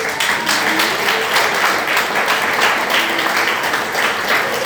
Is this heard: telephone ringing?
no